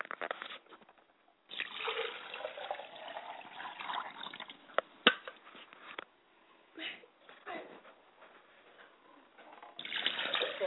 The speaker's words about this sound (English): Now, ladies and gentlemen, we're going to take some time now to do libation. And I pour libation on my hands and face to cleanse myself.